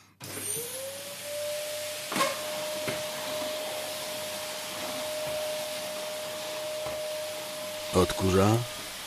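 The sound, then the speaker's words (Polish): A vacuum cleaner, its hose patched with tape, whirs steadily with a sustained motor drone and a high whine, broken by a few knocks and bumps, with a brief voice near the end. “W domu to ja zawsze odkurzam.”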